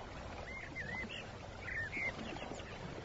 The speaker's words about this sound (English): Birdsong. Insects. Do you know where you are? In the country.